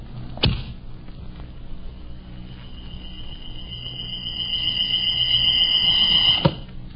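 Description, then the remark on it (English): A rawhide bowstring snaps sharply on a strong bow bent almost to breaking, then a thin, steady whistle rises as a gleaming arrow flies for several seconds before ending in a sudden, solid thunk of impact. No one speaks. “A gleaming arrow set against a rawhide string. A strong bow bent almost to the breaking point. And then...”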